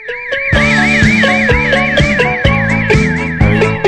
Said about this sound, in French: Je sais pas pourquoi il y a cette alarme au début. Non, bah non.